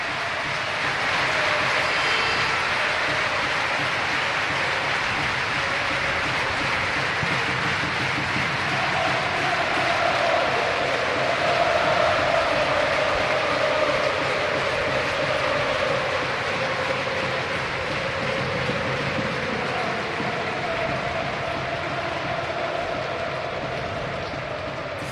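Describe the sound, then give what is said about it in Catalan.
A large stadium crowd at Villarreal applauds footballer Raúl Albiol on his farewell from the club, in a dense, steady roar that holds loud for the full length, with a faint swell of cheering voices rising through the middle. No one speaks. “Així aplaudit l'estadi.”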